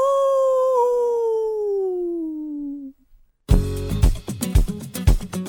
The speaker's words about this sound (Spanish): El hombre lobo. ¡Aú!